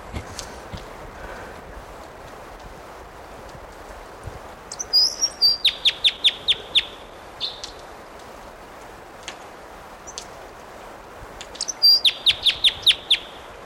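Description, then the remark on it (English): A male bird sings two bright bursts of rapid, evenly spaced high notes, each a quick series of sharp chips lasting a couple of seconds, over a low steady background hiss. “Here's that bird.”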